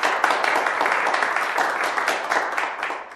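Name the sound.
prolonged applause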